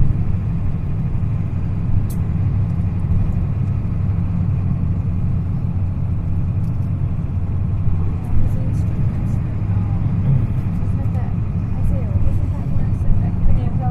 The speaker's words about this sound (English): This is Magazine Street. The bus comes right in.